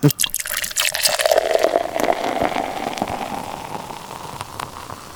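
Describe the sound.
Liquid pours in a steady, splashy stream for several seconds, loud at first, then gradually easing off, with faint voices in the background.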